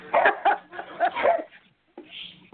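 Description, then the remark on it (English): A dog barks in a quick, loud, uneven string of yaps, goes briefly silent, then lets out a thin, high-pitched whimper. No one speaks. “I got dog problems here.”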